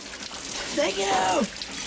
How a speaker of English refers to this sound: Joey's in the shower.